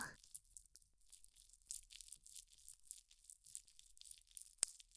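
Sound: wet squelching sounds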